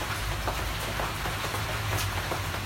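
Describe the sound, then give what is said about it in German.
Rain patters steadily on a tarpaulin sheltering people in front of an artwork, a dense hiss of drops broken by irregular sharper taps, with a low rumble running underneath and no voices. “Es regnet und auf der Plane prasselt es.”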